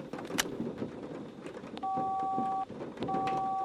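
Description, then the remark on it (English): Two steady cell phone keypad tones, each held for nearly a second with a short pause between, sound clearly over a rumbling, noisy outdoor background with a few faint clicks, as someone dials a cell phone for help. “Well, let's see if the cell phone can get me out of this.”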